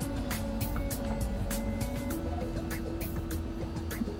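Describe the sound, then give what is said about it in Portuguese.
A pack of 12 racing trucks roars away from the start of the Super class race, with Fábio Fogaça making a good start and Bia Figueiredo in truck 111; their heavy engines blend into a loud, steady drone with bursts of rising noise throughout. “Largada da Super. 12 caminhões. correndo, Fábio Fogaça fazendo boa largada, a Bia no 111, olha lá.”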